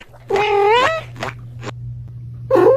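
A cat named Daisy meows loudly, a long drawn-out wail followed by short chirps and a second rising meow, over a steady low hum.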